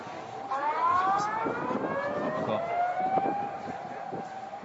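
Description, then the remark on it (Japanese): A tsunami warning siren wails steadily, its pitch rising and sliding in long sweeping tones over a rumbling, noisy background. “あら最高、あらそうそうこれだよ稽古ね、サイレン”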